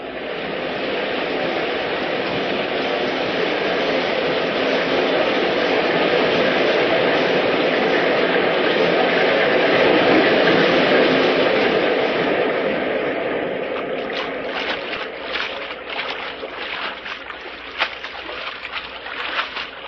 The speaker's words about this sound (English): They're taking us under the waterfall. They're taking us under the falls.